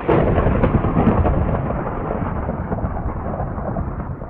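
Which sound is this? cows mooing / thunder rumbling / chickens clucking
thunder rumbling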